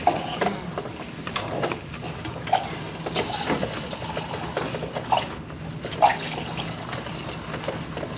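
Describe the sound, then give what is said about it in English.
Salt water pours steadily into a container for exact measuring, a continuous splashing trickle with a few louder gurgles and clinks, with no talking. “We want to be a little more fair with these measurements. We want them exact.”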